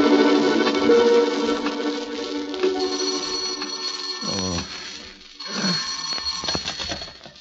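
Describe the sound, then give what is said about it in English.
A telephone bell rings at a prison warden's office in long, shrill bursts, with a brief dip before a second ring; no voices, just the insistent metallic jangle. “You'd better phone the warden to make sure, though, Governor.”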